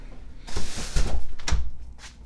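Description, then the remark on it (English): A garage door rumbles as it closes, a steady mechanical grinding punctuated by a couple of heavy thumps, then fading out. No one speaks. “So we'll close the garage door and go back inside.”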